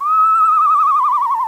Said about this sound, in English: They have such a wide variety of sounds. They sound like a horse. Like the eastern screech owl.